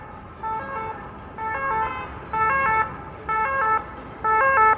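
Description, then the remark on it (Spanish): An ambulance siren wails around a hospital emergency department in Spain in 1981, in repeated two-tone bursts, about five cycles rising and falling in a steady rhythm, fairly loud over a low background hum with no one talking. “De una de estas ambulancias bajó”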